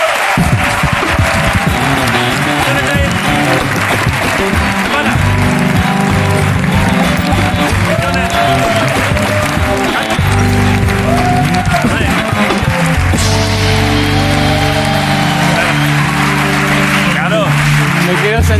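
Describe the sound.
The studio audience of the TV show La Resistencia claps loudly and steadily for the whole stretch to welcome a new guest, a dense rush of hands with whoops and voices mixed in underneath, never letting up.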